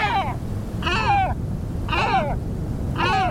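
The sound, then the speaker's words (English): A great black-backed gull calls four times in a steady rhythm, each harsh, nasal cry about a second apart, over a constant low rumble of wind or surf. “And though their populations recovered with help from environmental protections, great black-backed gulls are in decline once again.”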